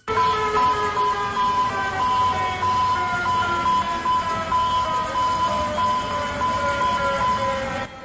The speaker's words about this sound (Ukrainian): Щойно ви чули звуки сучасного сигналу біди у Атлантичному порту Венесуели Каракасі.